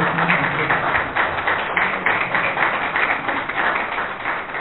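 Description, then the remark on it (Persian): A crowd applauds the speaker, a doctor, at the end of a talk, a dense wash of many hands clapping at a fairly even loudness for several seconds, with a few faint voices mixed in underneath. “سلام از خوشی، خواهش میکنم با یک تشویق های دکتر برنامه.”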